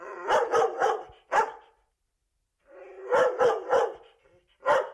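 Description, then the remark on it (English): A dog, Fleet, barks with satisfaction in a farmyard, in two quick bursts of three or four sharp, loud barks each, separated by a short pause, with no talking. “So Fleet barked with satisfaction.”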